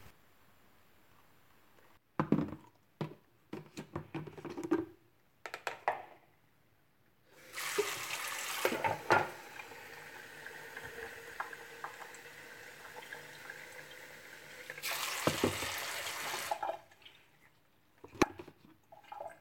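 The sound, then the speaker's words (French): A tap runs steadily for several seconds, with a loud gush as it opens and another before it shuts off, framed by splashing and dripping sounds as hands scoop water to wash a face. No one speaks. “L'eau qui me débarbouille le visage.”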